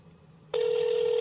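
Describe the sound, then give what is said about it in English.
An international phone ringing tone of an outgoing call to a phone abroad cuts in abruptly after a brief quiet stretch, a loud, steady electronic buzz-tone that holds unbroken to the end, with no talking. “That's an abroad phone.”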